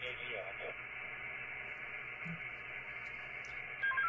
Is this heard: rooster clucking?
no